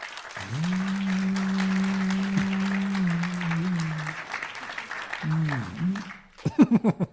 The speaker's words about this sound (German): Dann einmal euer Applaus